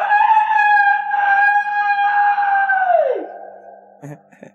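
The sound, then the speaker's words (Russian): A human voice imitates a rooster's crow: one long, loud, strained cry held steady for about three seconds, then sliding down in pitch and trailing off, followed by a brief soft noise. “Это я кукарекнул.”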